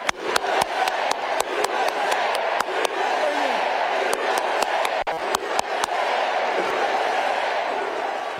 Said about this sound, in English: That was Tim Walz clapping, the loudest clapper, and the crowd chanting, USA, USA, USA. For a second, he joins in and does a big fist pump like, yeah!